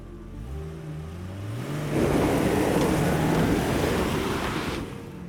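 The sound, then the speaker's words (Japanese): An SUV's rough 2-liter engine revs up with a rising whine, then swells into a loud, rough roar as the vehicle passes in front of a thicket before the sound cuts off. “ゴーという荒々しい2リッターエンジンの音をその場に響かせて、車は南が潜む茂みの前を通過した。”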